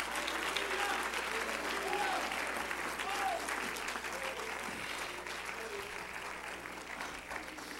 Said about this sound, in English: If you love that, let's clap our hands and bless his name.